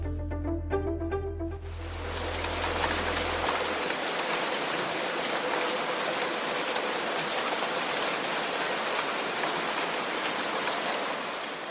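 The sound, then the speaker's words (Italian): Steady rain falls with a dense, even hiss and scattered drop patter, preceded by a brief tonal electronic sound in the first two seconds. No voices. “Un rumore, un suono molto comune. Quando in Svizzera piove, l'acqua scorre verso 5 bacini idrici diversi.”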